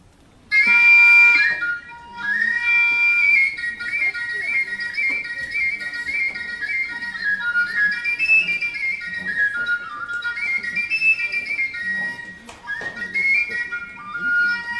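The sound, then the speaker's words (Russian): A small transverse folk whistle pipe called a prosverelka, held sideways and made from a ski pole, plays a lively, continuous melody of bright, piercing tones with quick trills and slides, fairly loud, pausing briefly near the end before resuming. “И вот это, а вот эта дудочка, она называется просверелка, она такого же принципа, как вот эта большая, только она поперечно держится, и у нее здесь пыши есть.”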